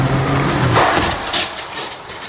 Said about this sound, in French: Le premier crash test entre une trottinette et une voiture. Et le choc est ultra violent, Mélodie Pépin. Le scénario est simple. Une voiture lancée à 50 km/h percute une trottinette électrique qui a grillé un feu ou un stop. Et voilà l'impact.